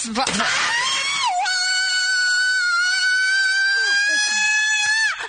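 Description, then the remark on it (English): A woman lets out a loud, piercing scream of pain, a drawn-out 'ow' held at a steady high pitch for several seconds, alone, fading abruptly at the end. “She held the owl pretty long, though. It sounds real to me. That scream is part of why I now think it's real.”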